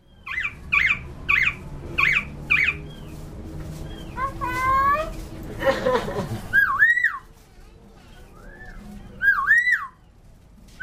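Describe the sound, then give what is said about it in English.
A caged myna bird calls in Bangkok, along the canal near the Jim Thompson House, in a rapid run of sharp, repeated chirps, then sweeping whistles, warbling trills and squawky rising-falling notes, loud and varied over a low background hum. “It's a caged minor bird.”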